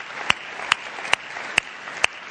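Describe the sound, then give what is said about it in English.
Audience applause for a pastor, a dense, steady wash of clapping with five sharper, louder claps standing out at an even, regular beat, with no voices over it. “Make some noise for him wherever you are.”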